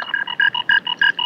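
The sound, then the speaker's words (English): A toy-like electronic frog croak from a key ring, played on a radio show: a rapid string of about ten short, buzzy, tonal pulses in an alternating rhythm, fairly loud, with no talking. “Yeah, Tony, can I hear your key ring?”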